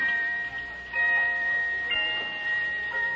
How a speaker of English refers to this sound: Now, may I distract you further with this watch of mine? Your watch? Listen. Listen to it chime.